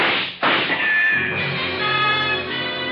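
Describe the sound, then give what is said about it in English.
A loud burst of gunfire from a gun barrel behind a picture on a wall, two or three sharp blasts in the first second, the slugs tearing into a rug, trailing into a dense, sustained crashing roar with faint ringing tones underneath. “The slugs tear into the rug beside us.”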